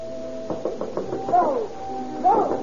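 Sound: knocking on a door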